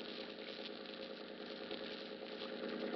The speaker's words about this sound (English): The name on the boat is the Dolphin. It's pulling into Pier 40 now.